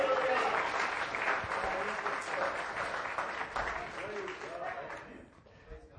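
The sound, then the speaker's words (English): An audience claps together in a clap of praise unto the Lord, a dense, sustained burst of applause that gradually thins and fades toward the end, with some voices mixed in beneath the clapping. “Let's give a clap of praise unto the Lord.”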